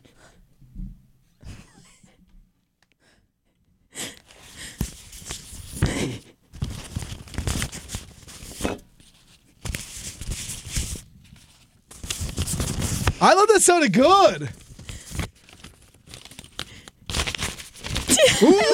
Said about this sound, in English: And there's always just too much paper. Too much paper you got to deal with. So you can use. He's so nervous. You can use that paper to relax and to fall asleep as you hear the rustling sounds of shuffling paper.